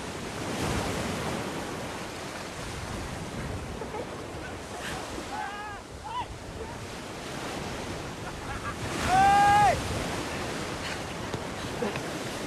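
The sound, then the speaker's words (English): Ocean surf washes steadily onto the shore in a broad, continuous roar, with wind noise mixed in and a couple of brief high-pitched cries rising over the waves, as people run from a sauna and wade into the water. “Smiling, she runs on a path toward the ocean.”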